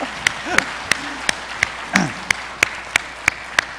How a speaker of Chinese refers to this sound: 前长老那一天在我们当中，他就在我们教会聚会了53年啊，给他鼓掌一下。